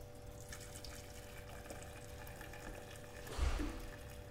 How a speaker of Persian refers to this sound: حالا آب جوش میریزم روش به اندازه یه لیوان.